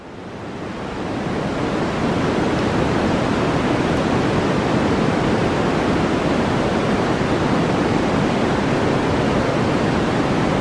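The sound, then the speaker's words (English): Steady, continuous white noise fades in over the first second or two, then holds at an even, fairly loud level, a broad hiss with no voices or other sounds. “So this is white noise.”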